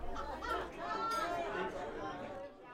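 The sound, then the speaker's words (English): Busy ambience at Castelli's, a fried chicken restaurant in Alton: a steady murmur of many overlapping voices of patrons chatting at once, with scattered laughter rising out of the crowd noise, continuous throughout. “The restaurant is filled with the sounds of patrons laughing and the smell of delicious fried chicken.”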